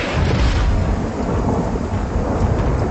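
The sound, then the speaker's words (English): Loud, close thunder from a lightning bolt striking the earth nearby in a wind and rain storm rumbles deep and continuous, a heavy low roar sustained throughout with rain hissing underneath; no voices. “Suddenly, a lightning bolt fell from the sky, struck the earth nearby, knocking me off my feet.”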